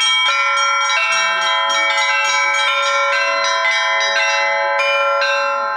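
Church bells peal loudly and continuously from the bell tower of the Church of Seraphim of Sarov, calling worshippers to service, with many rapid overlapping strikes over a sustained ringing hum of deep and bright tones, full, with no voices.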